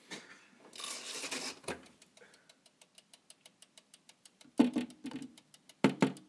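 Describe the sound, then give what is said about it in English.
A wind-up mechanical oven timer ticks softly and steadily at a quick, even pace after some winding and rustling, with a few louder clunks of handling near the end. “Now it is ticking very gently.”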